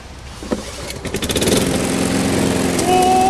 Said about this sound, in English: found another lawnmower, but will this one finally cut the mustard?